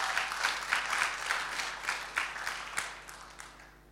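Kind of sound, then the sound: crowd, group clapping hands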